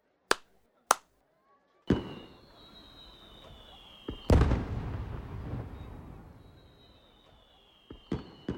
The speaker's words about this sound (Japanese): 始まったね。本当だ、ここから見る花火も綺麗だね。